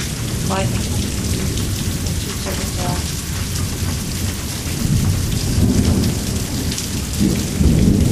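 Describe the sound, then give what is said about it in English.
Steady heavy rain hisses throughout while a low, rumbling roll of thunder swells and fades underneath, growing louder toward the end. “Yeah, you're not sure which thunder roll is associated with that particular bolt.”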